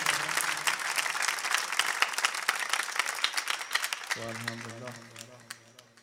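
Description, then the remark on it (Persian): A crowd at a religious gathering claps and applauds for the household of the Prophet (Ahl al-Bayt) and Hazrat Zahra, a dense, steady wash with a voice faintly beneath at first; after about four seconds a man's voice rises over the applause as it gradually thins out. “آسید فرمودن دست زدن در خونه اهل بیت اینو در زدن.”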